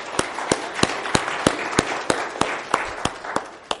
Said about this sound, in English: So let's give all those people a round of applause.